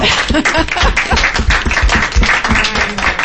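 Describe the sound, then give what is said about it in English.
A crowd applauds steadily, dense overlapping claps forming a loud, continuous wash of noise for a few seconds without letting up. “Another round of applause, you all.”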